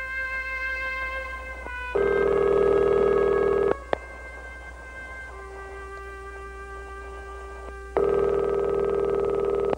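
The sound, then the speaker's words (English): A Skype call ringtone, for a call to Italy, repeats in steady pulses, bright harmonic tones that swell louder for about two seconds, then drop to a quieter sustained tone between rings. No one speaks. “So we're going to let it ring, and he should be there.”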